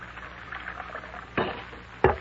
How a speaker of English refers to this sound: I'll pour the coffee.